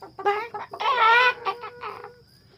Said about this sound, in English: The chickens hated Zuko. They screeched and cackled when they saw him.